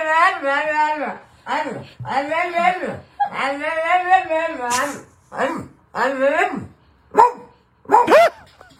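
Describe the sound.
A dog, heard with its owner, gives a string of about eight loud, drawn-out barks and whiny yowls, their pitch bending up and down in a talk-like way, with short gaps between bursts.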